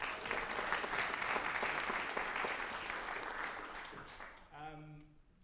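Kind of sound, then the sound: crowd, round of applause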